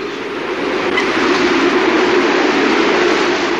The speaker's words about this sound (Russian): Что такое? Не пойму. Ветер усиливается. Подожду ребят дома. По-моему, ураган надвигается.